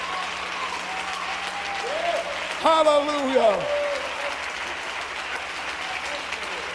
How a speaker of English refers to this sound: Hallelujah. Oh, give him a good clap offering.